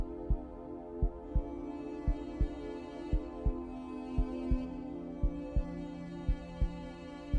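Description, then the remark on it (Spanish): A slow, steady heartbeat thumps in paired lub-dub beats, roughly one per second, over a low continuous hum. The beats are soft but distinct, with no voices present. “Con el gran poder de la visualización, de la conciencia y sobre todo de la energía, te pido que visualices tu corazón. Y que sientas y escuches el latido de tu corazón.”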